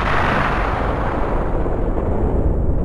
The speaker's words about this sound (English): In the beginning, there was, an explosion.